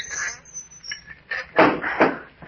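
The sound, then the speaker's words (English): A trap door, which the people have just climbed up through, swings closed again with a couple of dull wooden knocks close together, after a few faint rustles and creaks. The thumps are moderately loud, with no talking. “Shall I close the trap door again?”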